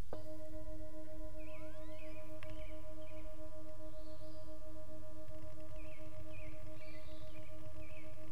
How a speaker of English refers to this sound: And listen to the bell and sort of the space in between. There'll be a resonant space. See if you can grasp that space.